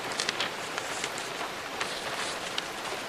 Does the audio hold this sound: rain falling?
yes